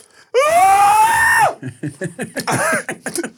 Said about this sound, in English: I started screaming with her.